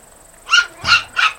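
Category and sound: animal, dog barking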